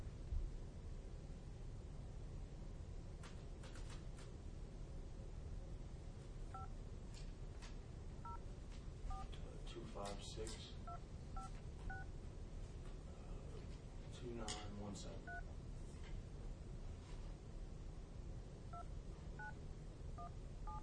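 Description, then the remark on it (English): A series of short telephone keypad beeps, DTMF tones as a phone number is dialed, pressed one after another at an uneven pace, heard over a steady hiss of background noise. “Now you got my phone number.”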